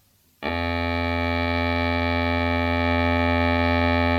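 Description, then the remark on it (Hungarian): After a brief silence, the bőgő (drone pipe) of a duda bagpipe being tuned starts abruptly and holds one low, reedy, buzzing tone, steady and loud to the end, with no voices. “a duda hangolása, a bőgő síp.”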